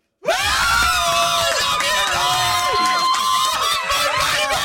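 A group of people scream continuously at high pitch, imitating excited fans at a concert, loud, with overlapping shrieks and wavering tones sustained throughout.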